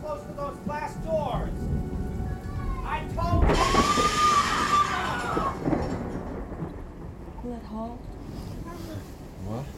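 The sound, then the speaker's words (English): Heavy rain hisses steadily while a loud rumble of thunder rolls through near the middle, swelling and then fading. Voices murmur faintly underneath at the start and end. “The rains will come in.”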